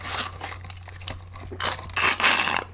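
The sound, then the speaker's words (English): Noisy slurping of water through a drinking straw with a little umbrella on it: a run of harsh, crackly, airy bursts that grow louder toward the end, over a steady low hum, with no talking. “Sorry, I had a straw with like a little umbrella on it that Fred left at my house.”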